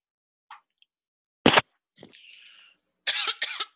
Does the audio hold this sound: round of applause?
no